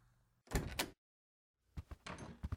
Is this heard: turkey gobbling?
no